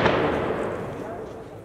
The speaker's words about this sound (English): And then once in a while, and this is what sets Kabul apart from other South Asian cities, is you'll hear a large explosion or a burst of gunfire because it still is a city that's at war.